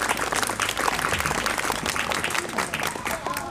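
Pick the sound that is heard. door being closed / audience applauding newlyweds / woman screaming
audience applauding newlyweds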